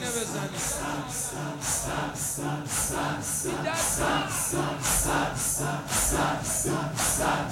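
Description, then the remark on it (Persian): A crowd of mourners beats their chests in unison, a steady series of loud, regular thumps roughly every two-thirds of a second, with a murmur of voices running underneath. “همینجوری سینه بزن با قدرت.”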